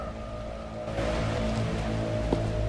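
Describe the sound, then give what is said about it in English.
Steady rain hisses as a broad, constant wash, growing slightly louder after the first second, with a low mechanical hum running underneath. No voices. “He walks past her with his bloodied lip and out into the rain.”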